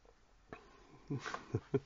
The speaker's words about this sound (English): Sorry, I'm playing with the dogs, and not always the best thing to do to do this.